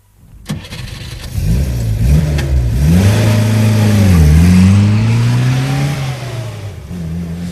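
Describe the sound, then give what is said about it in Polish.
An engine cranks and catches with a sharp start, then revs steadily, its low hum rising and falling in pitch as the butler's car pulls off and keeps driving to a neighbouring estate. “Butler właśnie pojechał do sąsiedniej posiadłości, żeby zadzwonić.”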